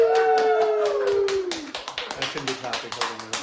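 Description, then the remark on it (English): A voice lets out a long, falling whoop, then a small group breaks into brisk welcoming clapping on Buchfeldstraße in Vienna's 8th district, sharp uneven claps continuing steadily to the end. “Warm welcome to Vienna, and let's applaud!”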